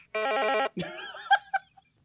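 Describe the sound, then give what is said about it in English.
A single half-second burst of a warbling electronic phone ring, steady and fairly loud, cuts off abruptly and is followed by a few short bursts of giggling laughter. “It stopped ringing.”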